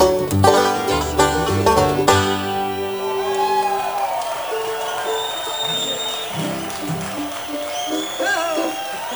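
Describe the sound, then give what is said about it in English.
A song's last sustained chord gives way to a live audience cheering loudly, a dense, steady roar of voices with high whistles and whoops continuing for several seconds. “Thank you, folks. We've surely enjoyed it. You've been a wonderful crowd tonight.”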